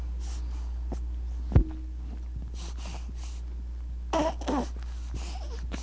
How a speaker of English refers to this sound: Breathing and sounds from the back of his throat.